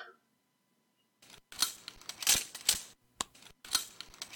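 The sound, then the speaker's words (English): Metallic clicking and rattling of handcuffs being unlocked, arriving in a quick series of sharp bursts after a second of silence, with no one speaking. “Would you please uncuff me now?”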